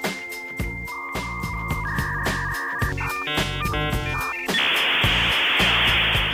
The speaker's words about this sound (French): Et 1994, rappelez-vous, c'était l'année où l'Internet était lancé, un outil ultra futuriste réservé à quelques geeks munis du fameux modem 56K avec sa douce et étrange mélodie au démarrage.